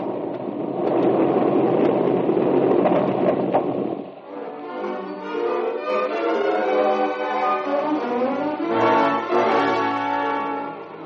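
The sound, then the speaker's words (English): A heavy, roaring rumble of crashing timber and debris as a tunnel roof with rotten timber supports collapses after grenades, loud and dense, fills the first four seconds, then gives way to sustained orchestral music. “The roof. It seems to be shaking.”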